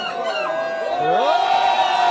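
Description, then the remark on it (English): A crowd of voices cries out together in a sustained, overlapping roar, with wavering, gliding tones rising and falling through the din. It stays loud and steady for about two seconds. “Listen to everybody out there.”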